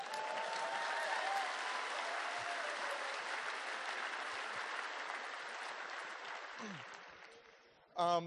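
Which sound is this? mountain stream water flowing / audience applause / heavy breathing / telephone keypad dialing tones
audience applause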